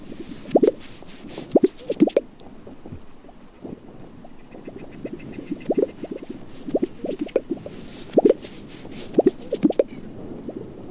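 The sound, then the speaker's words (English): Gunnison sage grouse calling, a recording from the Cornell Ornithology Lab: repeated low, hollow popping and plopping sounds in short clustered bursts, with soft whooshing noise in between and no voices. “That's the Gunnison sage grouse?”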